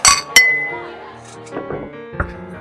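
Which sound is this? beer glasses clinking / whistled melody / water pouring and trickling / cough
beer glasses clinking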